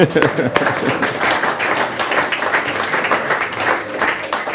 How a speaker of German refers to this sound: Wir haben als Gast bei uns den Herrn Hartmut Reuter, den Chef, der oberste exekutive Chef vom Rieter Konzern. Sie dürfen ruhig klatschen.